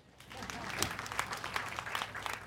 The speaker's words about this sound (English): Clap for him.